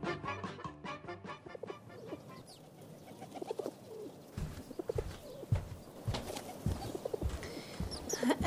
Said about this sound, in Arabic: انظر يا أبي، انظر. نعم. هناك طير خلف النافذة. اسمه هذا الطائر حمامة.